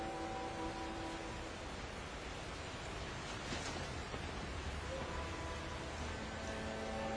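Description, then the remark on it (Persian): Steady, dense rain falling on Fadan, a hiss that holds an even loudness for the whole stretch, with no distinct drops or pauses and no voices. “به یمن قدوم فرزند شما باران به فدان می بارد.”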